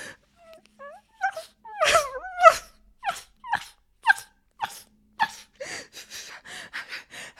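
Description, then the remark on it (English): A person imitates a puppy, letting out high, wavering whines followed by a quick series of sharp little yips and barks, fairly loud with short gaps between them. “You like it when your cunt barks and whines like a filthy puppy.”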